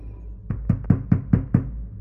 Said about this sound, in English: Leia startles at the sound of a furious pounding on the door, her knee banging into the table above, which a glittering star map is projected.